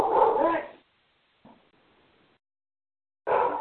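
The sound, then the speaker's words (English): Max, the speaker's pet dog, barks loudly, a burst at the start, a faint brief yelp in the quiet middle, then another loud bark at the end. “It's Max again. It's my dog.”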